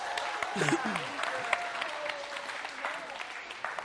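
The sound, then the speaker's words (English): An audience claps steadily for a few seconds to thank two summer interns for making a welcome sign for freshmen, a dense wash of many hands, with scattered voices and a whoop or two rising over the applause. “Let's give them a clap there.”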